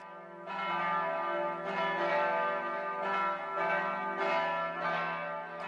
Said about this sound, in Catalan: Tornen a sonar les campanes al nostre campanar. El campanar dona avui les seves batallades amb alegria, perquè aquest diumenge ja tenim papa.